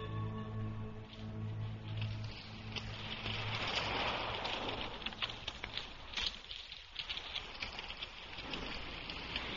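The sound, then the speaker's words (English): Rain starts to fall, pattering steadily on a hard surface, a dense wash of drops with scattered louder taps, building slightly and continuing throughout over a low background hum. “It's starting to rain.”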